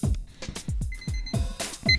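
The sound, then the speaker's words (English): A few short, high electronic beeps sound amid a series of heavy, rhythmic thuds and bumps, with the beeping clearest near the middle and again at the end. “When you hear the beeper going beep, you know it's time to do something.”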